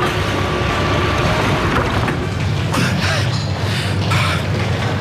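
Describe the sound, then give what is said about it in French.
Train doors open on the left side at Gare de Lyon station over a loud, steady low rumble, with a few hissing, clattering mechanical bursts in the second half and no voices. “Ouverture des portes.”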